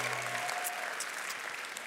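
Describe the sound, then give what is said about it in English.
A church audience claps together in a dense, sustained burst of applause that holds steady and fairly loud, with a faint held tone lingering in the background at the start. “Come on, I know you can clap louder than that.”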